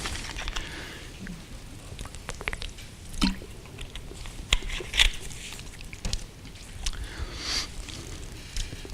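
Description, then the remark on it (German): Someone drinks water, with quiet wet sips and a few soft swallowing gulps spread across a hushed stretch with no talking. “Eine Grafik fürs Wasser trinken.”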